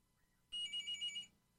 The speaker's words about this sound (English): What's that buzz sound? Sounds like the phone. Is someone? People are dialing in for the show.